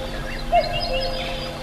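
A couple of brief bird chirps sound over a steady, breathy background hiss of faint wind: birdsong in a forest.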